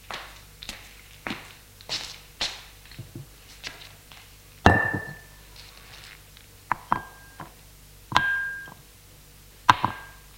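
A grandmother sets a bottle and three glasses, taken from a sideboard, down on a table: a series of sharp taps and knocks, a few with a brief glassy ring, spaced irregularly with no voices.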